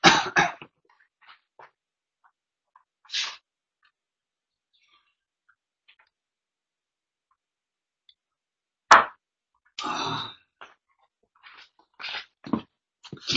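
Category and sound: human body sound, coughing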